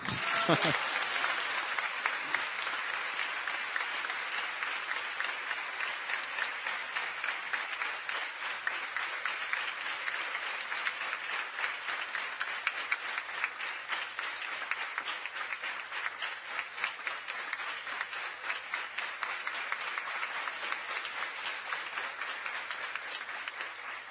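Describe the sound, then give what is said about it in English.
Sustained applause from a large gathering of Krishna devotees fills the whole stretch, a dense, steady wash of many hands clapping at once, loud, with no pause or fade. “So you give a clap to him also.”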